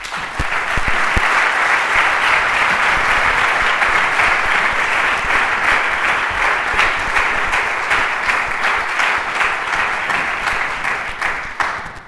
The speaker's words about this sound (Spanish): Así que le voy a ceder ya la palabra y pedir para él un fuerte aplauso.